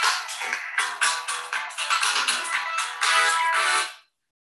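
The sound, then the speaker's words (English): A phone ringtone plays loudly for an incoming call, a bright, busy electronic melody of quick repeating notes that runs for about four seconds before cutting off into silence. “I'm in a meeting. You're going to have to stop calling me.”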